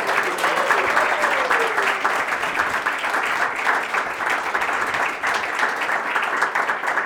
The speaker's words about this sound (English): But we want to celebrate, and so I actually want to give a round of applause and a cheer to the team that put this together